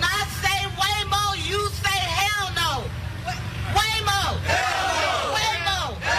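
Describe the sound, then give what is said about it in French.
A crowd chants loudly in a steady, repeated rhythm at an outdoor street demonstration against self-driving cars, with a low rumble of traffic running underneath the shouting voices. “While this protest was held, another was held up in San Francisco.”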